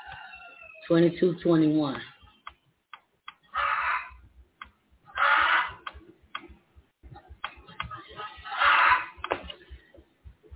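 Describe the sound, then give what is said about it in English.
A chicken crows once, then lets out several short, scratchy clucking bursts spaced a second or two apart, over a steady rapid ticking in the background. “There go my chicken again, my hand, y'all.”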